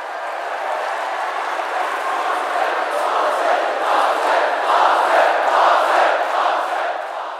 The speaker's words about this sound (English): Yes, they cheered Arthur for being so clever.